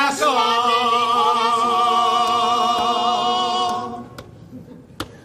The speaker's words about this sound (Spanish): Ay, no, perdón, que es el móvil, que está en vibración.